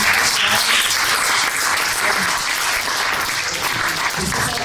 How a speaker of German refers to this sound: Und dafür auch nochmal Applaus, ja